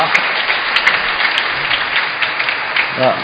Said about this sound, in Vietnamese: Chúng con quý ông bà anh chị em thấy thánh lễ hôm nay diễn ra các trang nghiêm, có sốt sáng, có vui không? Vậy thì cho cha một tràng pháo tay, cảm ơn cha